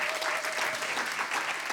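An audience at a literary award presentation of the year's best three books applauds an author steadily, a dense, continuous wash of many hands clapping at an even level for the whole stretch, with no voices standing out.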